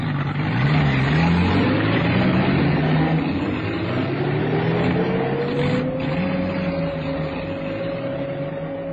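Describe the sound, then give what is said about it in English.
Steady, loud engine rumble of a convoy of vehicles moving out of Naivasha at 2:30 in the morning on November 11, 1955, a broad mechanical roar with a droning tone that slowly climbs in pitch as the motors pick up speed. No voices. “At 2:30 the following morning, November the 11th, 1955, a convoy of vehicles moved out of Naivasha.”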